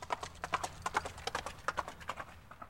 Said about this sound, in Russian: Вскочил на коня, посадил сзади Ставра и поскакал в поле к своему шатру.